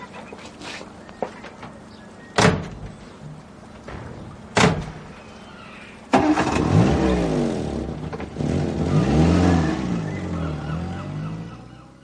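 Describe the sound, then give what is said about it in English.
Two sharp car door slams, then an engine turns over and revs loudly, its pitch rising and sweeping as the car pulls away. No one speaks. “Right, here's the car. Hop in.”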